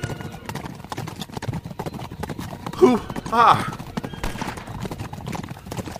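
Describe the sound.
The Lone Ranger and Tonto urge their horses, Silver and Scout, at top speed, racing alongside another horse: hooves pound in a fast, steady clatter, with a loud whinny rising over the hoofbeats midway through and voices mixed in.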